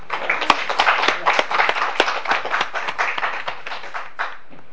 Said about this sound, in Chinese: 谢谢乡长的报告，掌声鼓励。这几年来，这八年来，乡长的辛苦跟很累啊，我们掌声鼓励他，祝他身体要健康。